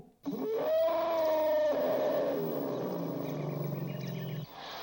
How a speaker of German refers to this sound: So singt ein Elefant und eine Elefantenkarawane.